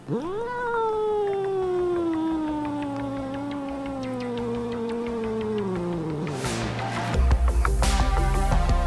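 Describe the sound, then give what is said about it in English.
A cat lets out one long, drawn-out meow right at the microphone, loud, its pitch slowly sinking before a burst of rumbling handling noise at the end. “she will be joining us on mic to talk about how she feels about this representation.”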